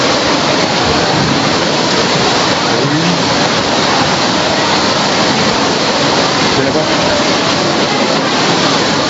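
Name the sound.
heavy rain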